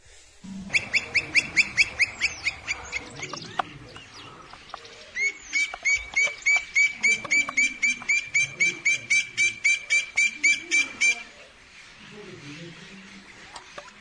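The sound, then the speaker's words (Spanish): A campo flicker calls in two loud bursts of rapid, evenly repeated ringing notes, a short series followed by a longer run, over a faint outdoor background. “Ahí tenemos un carpintero de campo.”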